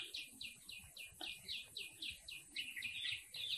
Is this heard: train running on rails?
no